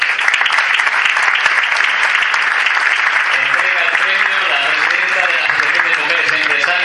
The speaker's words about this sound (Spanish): Un fuerte aplauso para Viajes Espuña.